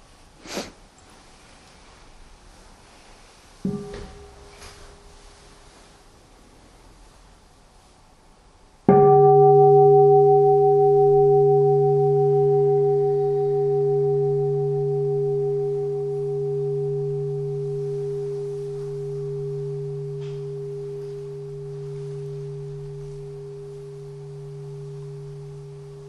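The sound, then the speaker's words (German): A bell is struck once to mark a short pause in a talk, ringing on for many seconds, a low, steady tone with a brighter overtone, fading very slowly. A faint light knock or two come just before it, with no talking. “Ich möchte an dieser Stelle, oder vielleicht hören wir mal eine Glocke, so eine kurze Pause machen.”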